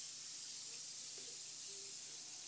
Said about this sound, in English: It sounds like when you spill pop or something. Like that fizzing noise.